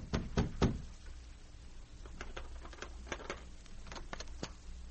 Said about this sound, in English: the sergeant knocked on Baird's door